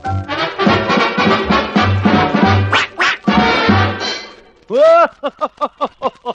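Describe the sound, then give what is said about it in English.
Voices sing in a nasal, duck-like tone, then a loud drawn-out imitated quack rings out, followed by a quick, evenly spaced run of about six short mimicked quacks. “quack, quacks in the chalk, quack, quack, quacks in the doorstep, quack, quack, quack in the walk.”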